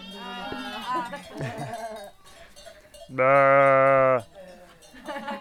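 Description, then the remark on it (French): A person imitates a sheep's bleat: one loud, sustained, buzzing baa of about a second, preceded by shorter wavering vocal bleats and murmured voices. “Il faut que je fasse le bruit du mouton.”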